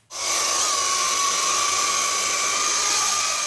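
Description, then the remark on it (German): A drone hovers in the air, its propellers giving off a steady, loud buzzing whine with a high tonal edge that starts abruptly and holds constant throughout, with no voices. “Die Drohne schwebt stoisch in der Luft.”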